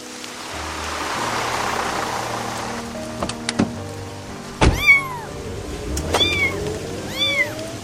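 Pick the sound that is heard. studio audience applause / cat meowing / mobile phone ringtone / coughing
cat meowing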